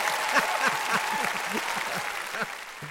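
A crowd of about 1,000 people applauds steadily, with dense clapping filling the background while scattered shouts and cheers rise above it, the excited din holding at a fairly loud level throughout.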